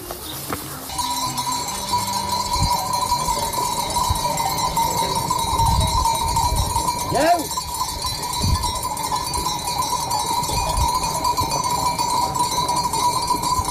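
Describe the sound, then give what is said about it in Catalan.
Sheep bells clink and jingle continuously as a flock of sheep moves about, a steady metallic chiming with a brief bleat in the middle, heard outdoors with no talking; the flock belongs to a retired shepherd in Felanitx. “Aquests picarols que sentiu són de les ovelles del nostre següent convidat,”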